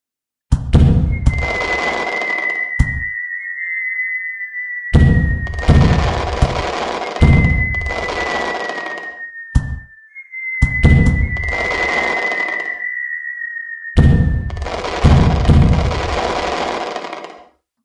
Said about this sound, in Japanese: それと同時に河川敷の方から花火が上がった。